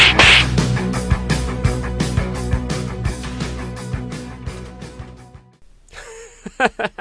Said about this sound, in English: That's right, slap them upside the head.